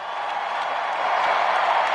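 A crowd applauds Al Gore as he comes on to speak, a dense wash of clapping that holds at a constant level and swells slightly toward the end, with no voices standing out.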